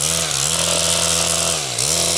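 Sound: chainsaw running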